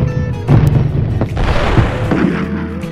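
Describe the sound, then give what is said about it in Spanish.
Loud explosions: a heavy boom hits, another follows about a second later, and deep rumbling debris and roaring fill the space between and after, with no pause. “Una misión llena de explosiones.”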